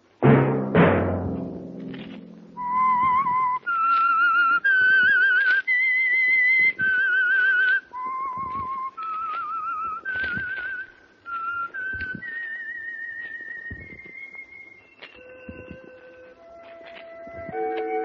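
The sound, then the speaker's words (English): The whistled signature tune of the Signal Oil radio program The Whistler: a loud low chord opens, then a solo whistler carries a slow, eerie melody of sustained notes that rise and fall, clear with no talking. “That whistle be your signal for the Signal Oil program, The Whistler.”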